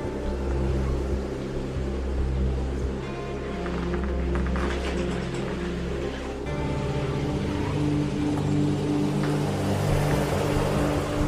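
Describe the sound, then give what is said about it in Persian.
A car engine hums and rumbles as Forouzan's car pulls out of the parking garage of a house, its tone shifting partway through as it moves off. No one speaks. “ماشین فروزان از پارکینگ خونش میاد بیرون.”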